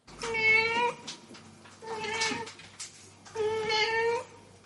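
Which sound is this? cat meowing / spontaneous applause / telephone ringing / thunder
cat meowing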